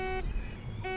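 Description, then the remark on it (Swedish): A velomobile turn signal indicator sounding off in a steady on-off rhythm: two loud electronic beeps with a brief quiet gap between them, no voices. The velomobile is spindle-shaped, about 2.65 metres long, yellow on top and red below. “Där finns en blinkers som låter så här.”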